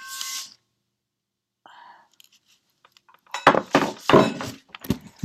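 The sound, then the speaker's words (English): A short ringing clink, a pause with a faint tinkle, then a burst of loud clattering knocks and clinks as a meditation bell is fetched, with no one speaking. “So I'm just going to get my bell.”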